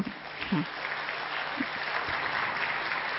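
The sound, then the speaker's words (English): An audience claps to welcome a doctor from the Global Hospital, a dense, steady wash of many hands lasting about three seconds at even loudness, with a few low vocal murmurs underneath. “So first of all, let us all welcome him with two hand clap.”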